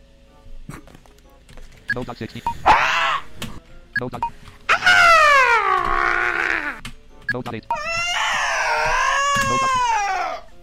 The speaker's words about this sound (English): Yay for the thing that sounds like a dying cat. Now that's just terrifying.